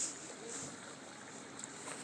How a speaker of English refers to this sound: There's a boat coming from behind us, yes. Is that one of these boats, or is it a... No, it's a... Motorboat, it sounds like. Yeah. Wow.